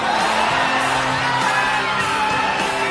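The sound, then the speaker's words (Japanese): A loud arena crowd at a boxing event cheers continuously as a fighter appears and walks slowly toward the ring before a Japanese featherweight title match, a dense roar of many voices with whoops and yells rising over it, steady in volume throughout. “選手が姿を見せた途端にこの大歓声、ゆっくりと今リングへ向かいます。”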